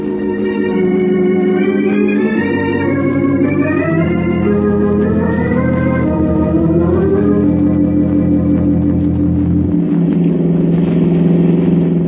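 A car engine hums steadily from inside the vehicle, its pitch rising and falling through gear changes as it drives along continuously, with no voices.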